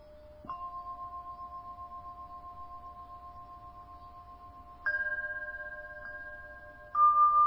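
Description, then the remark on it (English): Bells ring out in a slow sequence of about four strikes, each clear tone sustaining and overlapping the next at a moderate, steady volume, with no voices present. “Just like you could differentiate between you and the sounds of the bells, notice you can differentiate between you and the sensations.”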